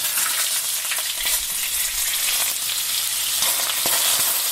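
Steady, crackling sizzle of food frying in a hot pan, a dense hiss with scattered pops running continuously and fairly loud, with no voices.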